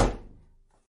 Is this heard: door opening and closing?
yes